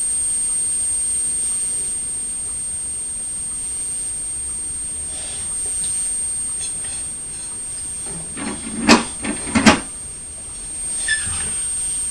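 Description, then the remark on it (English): A bin bag lorry's heavy engine idles with a steady low rumble, then a quick cluster of loud, dull thuds lands near the end as men throw bags into the back of the lorry. “You can hear the engine, but also you can hear the thud as the men are throwing the bags into the back of the lorry.”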